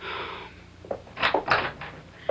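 A door is opened: a few quick clicks and a short scraping swish of the latch and hinge, then quiet, with no one speaking.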